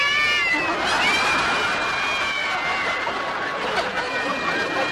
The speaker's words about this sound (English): Now that I put Limber up there to get rid of the starlings, your trees are full of cats.